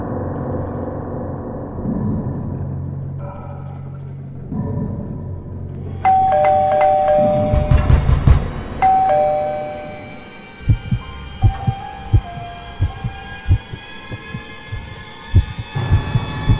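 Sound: doorbell ringing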